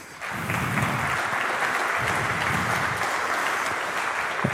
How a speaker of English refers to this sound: And just as a general disclaimer, I would like to get a little of a clap going for The Hague, because they actually fixed everything that we reported.